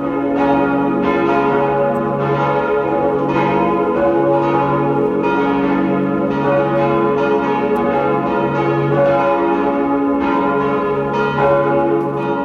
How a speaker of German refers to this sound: Es ist 12 Uhr. Sie hören die Glocken der Pfarr- und Wallfahrtskirche Sonntagberg in Niederösterreich.